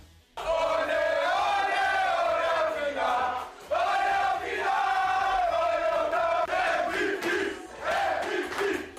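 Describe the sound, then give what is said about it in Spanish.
A group of Paris Saint-Germain players loudly chants "MVP" for Hakimi, scorer of the team's second goal, in the dressing room after a match, voices shouting together in sustained, rising phrases, with three chant bursts separated by brief pauses. “Los gritos de MVP eran para Prat Hakimi, que había anotado el segundo tanto del equipo parisino.”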